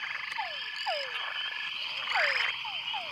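Repeated descending courtship calls of male frogs, sweeping downward in quick chirps over a dense chorus of insects and other frogs in a forest, with a steady high buzzing backdrop and no voices.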